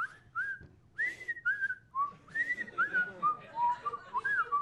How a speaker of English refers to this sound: Eyes closed, he whistled his favorite tune.